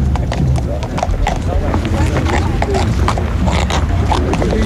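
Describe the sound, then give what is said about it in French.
Horse hooves clip-clop steadily in a quick, uneven rhythm as Monsieur Terre Blanche, leader of the AWB, rides his horse at an outdoor rally in fine weather, over a dense background with people talking. “Ah, ça, c'est le monsieur qui est sur le cheval, c'est monsieur Terre Blanche, donc le chef de l'AWB.”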